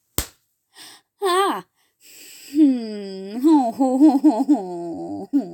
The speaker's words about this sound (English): What a cute little play slap. Is that all you've got? Keep this up and I'll start to think you mean it.